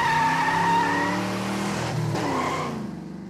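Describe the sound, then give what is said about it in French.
A powerful car roars off along the road with a high, sustained squeal of skidding tires over a deep engine growl, loud, the screech wavering before fading slightly at the end. “Nous revoilà repartis sur la route. Donc là, avec une voiture beaucoup plus puissante. Et là, ça fonce.”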